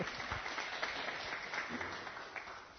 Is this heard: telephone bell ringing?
no